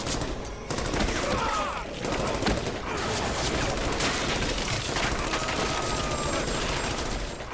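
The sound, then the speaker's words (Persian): A loud, sustained barrage of rapid gunfire, the shots overlapping into a dense, continuous clatter that runs from start to finish without a pause. “تیر اندازی نکنین.”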